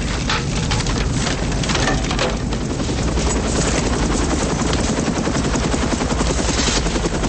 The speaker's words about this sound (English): Larkin and Malloy run to the chopper.